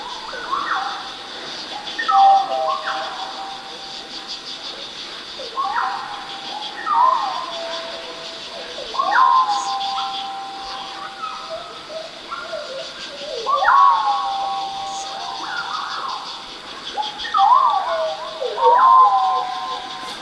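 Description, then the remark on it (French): Synthetic, electronic chirps and warbling tones that mimic birdsong, generated by a soundscape system that tries to recognize and copy bird sounds, repeating in phrases with sliding pitches over a steady high hiss, heard alone without speech. “On bascule dans autre chose, un son de nature électronique, là on l'écoute seul, mais c'est généré par le paysage sonore, c'est pas moi qui essaye de l'inventer.”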